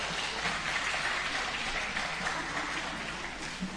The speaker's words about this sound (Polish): Przywitajmy się oklaskami.